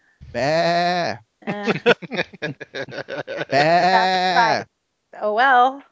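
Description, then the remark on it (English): A man's voice loudly mimics a sheep, giving two long, wavering bleats with a rapid stuttering bleat between them, then a shorter bleat after a brief pause. “People are sheep. Bah.”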